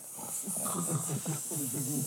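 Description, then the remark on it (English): A voice imitates a sleeping snake, a steady breathy hiss running for about two seconds over a low, wavering hum, as if slow snoring and hissing are blended together, moderately loud. “How did the snake sound sleeping?”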